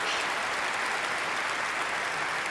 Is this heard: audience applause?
yes